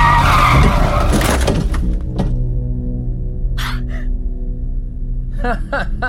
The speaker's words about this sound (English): Heavy on the brakes there, fella.